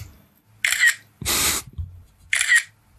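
A smartphone camera shutter fires as a photo is taken with the phone set to silent, giving crisp, bright clicks twice with a louder, fuller burst of shutter noise between them, each lasting a fraction of a second over a quiet background.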